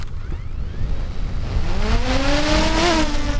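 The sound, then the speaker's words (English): Drone motors whir up from rest, a whining tone climbing steadily in pitch over broad rushing noise, then holding a loud, steady buzz, as the drone takes off to photograph bubble-filled ice at a dam. No one speaks. “I fly the drone in a grid pattern, snaking north and south while periodically taking high-resolution photos.”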